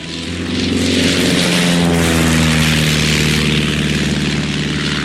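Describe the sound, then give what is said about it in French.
A propeller airplane engine drones loudly and steadily, its harmonic hum shifting slightly in pitch as it revs, with a broad whooshing rush over the top and no voices. “Pour un baptême de l'air, c'est ce qui se fait de mieux. Un avion, c'est plus difficile à conduire qu'une voiture?”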